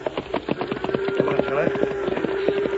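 Steady hoof clops of a horse going up a hill at night knock along in an even, plodding rhythm, fairly loud, with a faint sustained creaking tone running beneath them. No one speaks.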